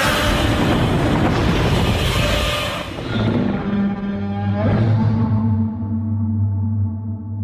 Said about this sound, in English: Yeah, but the atomic breath sound, it sounds like a jet engine. Yeah. But yet, like, natural at the same time, like you believe that it could be coming out of Godzilla.